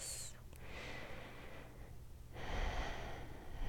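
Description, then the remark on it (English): Slow, deep breaths, a long airy inhale followed by a pause and then a fuller, louder exhale, soft and breathy with no talking. “Feel my breathing.”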